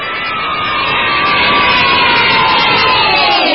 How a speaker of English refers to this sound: and the crowd goes wild